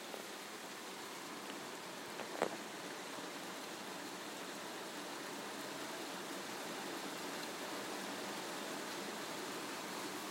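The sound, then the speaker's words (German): Steady, dense rushing noise of heavy, monsoon-like rain pouring down outside fills the whole stretch, with one brief sharper spatter or knock near the start and no voices. “Und jetzt kommt hier monsunartig was runter.”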